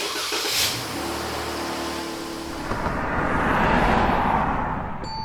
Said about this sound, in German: Gut, dann fahre ich schon mal einen Wagen vor.